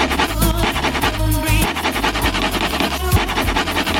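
Repeated rhythmic scratching of a Tipos lottery scratch card, like a coin rubbing it, runs throughout over a loud, steady song with a heavy bass line. No one speaks.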